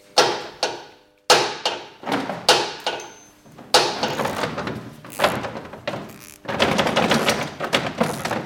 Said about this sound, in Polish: To były dźwięki młotka. Trzeba było wyprostować jedno z ramion, które przytrzymuje w spodnich zderzaka.